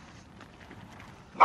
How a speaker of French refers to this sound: Oh, ici, il y a toujours les chiens d'habitude.